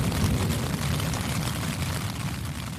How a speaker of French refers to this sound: Luz-Saint-Sauveur, 3h du matin. L'orage gronde, la pluie s'abat sur ma petite tente. Ça promet.